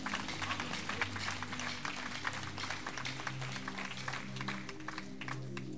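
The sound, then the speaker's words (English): A church crowd claps steadily for several seconds as a clap offering for the biblical Joseph. It is a dense, even patter of many hands with no pauses and no speech on top, the level holding constant throughout. “Another clap offering for Joseph.”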